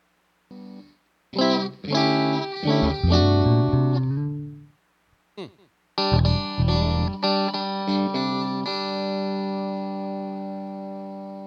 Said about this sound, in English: Your amplifier, when you touch the distortion button on it.